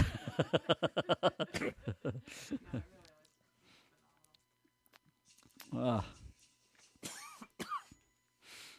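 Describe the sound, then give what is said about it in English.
A man coughs in a rapid, harsh run of bursts, then after a quiet pause lets out a few more separate coughs, fairly loud. “And when he coughs, he has some pain in his side that flares up.”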